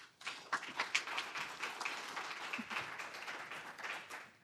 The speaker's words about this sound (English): It's nice to hear the clapping before I've even said anything.